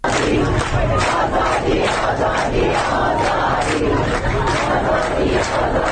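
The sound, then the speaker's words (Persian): A large crowd of people from Shiraz and Kazerun, Iran, chants slogans such as "Water, electricity, life" in unison in front of the governorate building, protesting repeated water and power cuts; loud and sustained, with rhythmic repeated shouts pulsing about twice a second over a dense roar of many voices. “آنها پنج شنبه روبروی استانداری جمع شدند و حق مسلم خود را فریاد زدند.”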